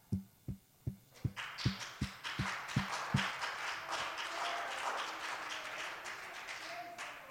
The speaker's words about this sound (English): Clap for joy, Psalm 98 and 8. We should clap.